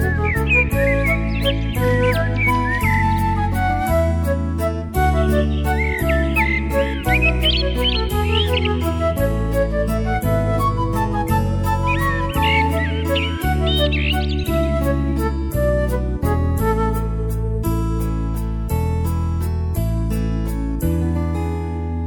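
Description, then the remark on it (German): Bursts of high, twittering birdsong chirps around a house on a sunny spring day come in three short flurries over a loud, steady bed of harmonic music with sustained chords. “Es zwitschert und zwatschert ein Ohrenschmaus, der Vogelgesang rings ums Haus.”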